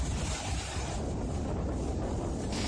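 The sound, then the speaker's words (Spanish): Strong wind roars without a break in a town in northern Spain, recorded a few hours earlier: a dense, rumbling rush with heavy low-end buffeting and a steady hiss on top, loud and constant throughout, with no voices. “Así suena el viento en una localidad del norte.”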